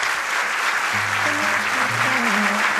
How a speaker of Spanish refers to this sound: Seguid aplaudiendo a Isaías Lafuente. Hola, buenas tardes. Hoy en el Teatro del Sauzal.